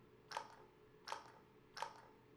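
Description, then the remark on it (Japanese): Hands lather shampoo foam before scrubbing a head during hair washing, making three soft, wet squishing strokes at an even, unhurried pace, each one brief and quiet, with no voices. “先に手で泡立てて、頭ゴシゴシしちゃいますね。”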